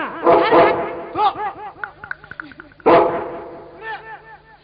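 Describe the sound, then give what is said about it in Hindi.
A person mimics a dog: two loud bursts of barking, each trailing into a run of quick, whiny yips and yelps, with no other talk around it. “राम करे तू बनेगा कुत्ता घर घर यूं ही फिरा करे”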